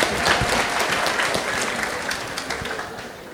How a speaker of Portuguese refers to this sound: Queridos, pode aplaudir isso se você quiser.